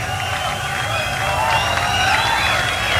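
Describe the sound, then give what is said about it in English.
A concert crowd roars continuously for an encore, heard backstage during a WBCN radio broadcast, a steady loud wash of cheering with scattered whoops and shouts rising above it, plus some clapping mixed in. “I don't think the crowd's going to let them leave.”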